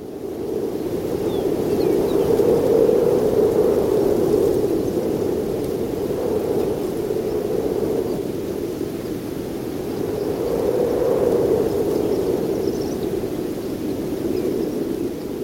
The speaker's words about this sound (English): This happens to be from New Mexico at a barbed wire fence. He recorded the sound of wind, that sort of breathy whistle changing its pitch as it changes speed. Microphone low to the ground.